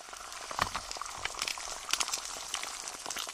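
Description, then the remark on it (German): Scrambled eggs, made in the evening from the contents of blown-out eggs, sizzle and crackle in a hot pan, a steady hiss dotted with small pops and spatters. No voices are heard. “Aus dem Eiermatsch hat Papa abends Rührei in der Pfanne gemacht.”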